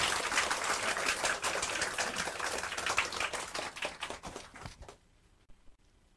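An audience applauds to welcome the speaker of an evening lecture on Buddhist doctrine, with dense, crackling claps that hold steady for several seconds, then thin out and fade quickly to near silence.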